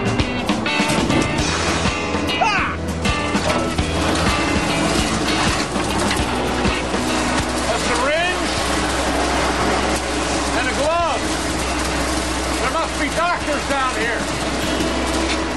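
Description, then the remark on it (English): A vacuum machine used while flushing a sewer lateral runs loudly and continuously, a steady motor roar with a low hum, broken by occasional short rising-and-falling whistly sweeps, with faint voices underneath. “Here comes the vacuum.”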